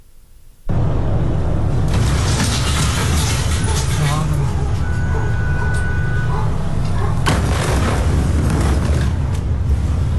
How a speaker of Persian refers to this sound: شدت انفجار به اندازه‌ای بود که صدای آن تا دست کم 10 کیلومتر دورتر شنیده شد و شیشه‌های ساختمان‌ها تا چند کیلومتری بندر بیروت شکسته شدند.